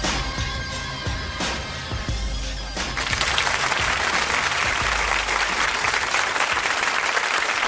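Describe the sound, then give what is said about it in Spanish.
A brief stretch of tonal music gives way to loud, sustained applause, a dense and steady wash of many hands clapping that continues to the end without letting up. “Gracias por los aplausos, no nos los merecemos, si al fin y al cabo, si somos dos personas normales y corrientes.”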